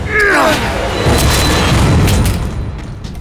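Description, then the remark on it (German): A heavy door is broken open on a count of three with a loud booming crash, followed by a sustained low rumble and clatter that slowly fades over a few seconds. “Wir müssen die Tür aufbrechen.”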